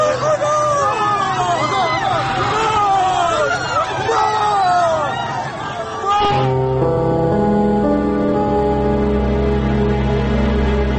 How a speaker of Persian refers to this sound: دوباره صدای شلیک می آید و صدای شیون مردم.